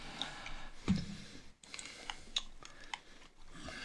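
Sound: computer keyboard typing clicks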